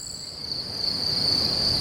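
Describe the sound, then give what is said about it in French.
A field cricket sings a steady, shrill high-pitched trill that runs without pause for the whole moment, clear over a faint low background rumble, with no voices. “Le grillon champêtre.”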